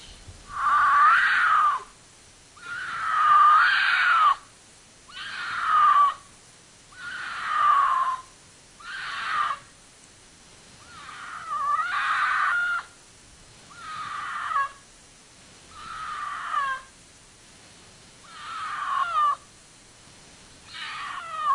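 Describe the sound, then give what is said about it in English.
A cougar screams at night over and over, about ten long, harsh, wavering wails at a steady pace with short gaps between them, loud, with no talking. “And here's some actual audio of a screaming cougar.”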